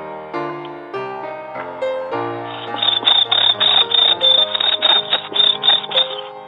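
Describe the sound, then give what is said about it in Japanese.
A Tsuzuresase cricket chirps in a steady, rhythmic series of short bright pulses, fairly loud, entering after a couple of seconds over a sustained tonal background hum. “せっかくですので虫の間に、まあ懐かしいと思う方は、まあ聞いてみてください。すずれさせコオロギと言います。”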